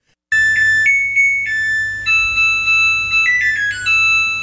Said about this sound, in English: I should have my wife play ours, but yeah, it's that's the kind of thing that the Samsung folks play when your laundry's done